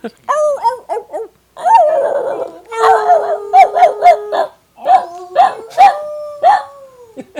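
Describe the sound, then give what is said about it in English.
A dog whimpers and yelps in a rapid series of high, wavering cries, with drawn-out whining tones and sharp short yelps repeating, fairly loud, no talking. “Oh, wow, that's really bad. Poor dog. Poor dog.”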